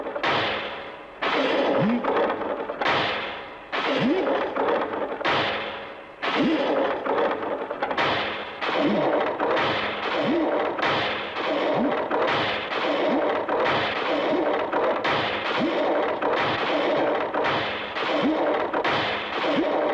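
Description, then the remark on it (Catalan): Heavy weights clank again and again on an exercise machine as a man pulls two rings connected to two large weights forward, first one, then the other. Each loud impact lands at a steady pulling rhythm roughly every second, with faint creaks between strokes. “El coronel estira les anelles cap endavant, ara una, ara l'altra.”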